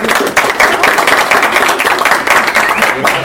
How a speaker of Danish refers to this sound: Skal vi ikke tage og klappe for det?